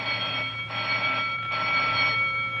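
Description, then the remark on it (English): A bell, rung to wake the justice, rings continuously with a bright, metallic clanging tone, sustained high ringing overtones filling the whole stretch without a break, fairly loud, with no voices over it. “Oh, say, will you please ring the bell and stop wasting my time?”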